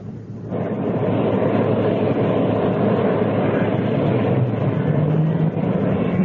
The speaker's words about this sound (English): Engine start completed.